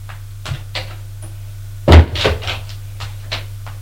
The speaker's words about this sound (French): Ouvre une porte.